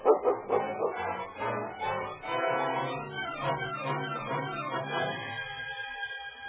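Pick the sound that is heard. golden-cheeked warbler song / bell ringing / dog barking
dog barking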